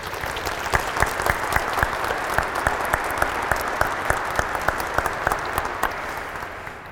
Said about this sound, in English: Give them a round of applause for all their work.